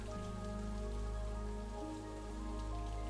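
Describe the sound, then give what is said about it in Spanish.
Steady, fine but heavy rain falls continuously, a dense even patter with a low hum underneath and no voices. “La lluvia está cayendo en este momento. Va a un ritmo perfecto. No es una lluvia escandalosa.”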